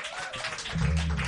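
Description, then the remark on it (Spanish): A crowd claps in a dense, steady patter of applause, with a low rumble swelling in partway through as the clapping keeps going. No one speaks. “A los que no habéis aplaudido, que estáis fuera del flow, también gracias.”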